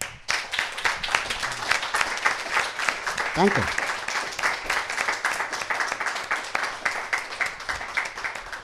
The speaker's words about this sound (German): Voll schön, vielen, vielen Dank. Erstmal einen riesen Applaus.